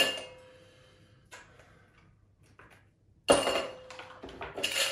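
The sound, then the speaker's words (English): Skull-and-crossbones Halloween ice cubes clatter into a metal cocktail shaker for a sour apple cocktail in a few bright, clinking bursts, a short quiet spell before a louder rattling tumble near the end. “So we'll start by putting a few of these skulls and crossbones into our shaker.”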